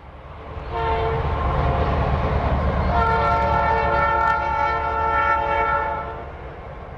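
A freight train on the line across the flat, open prairie at Greensburg rumbles past with a steady low roar, its horn blaring in a long sustained chord that swells midway before the sound fades slightly at the end.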